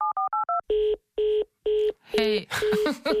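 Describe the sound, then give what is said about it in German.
A quick run of six short telephone keypad tones, then several evenly spaced ringback buzzes, the last ones overlapped by a voice speaking over the line, as a call is placed to a woman at her home. “lass uns doch auch gerade, weil du sie ja mehrmals besucht hast und begleitet hast, sie einfach zur Feier des Tages mal anrufen bei sich zu Hause.”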